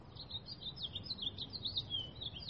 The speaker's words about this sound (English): Thank you, God, for birdsong.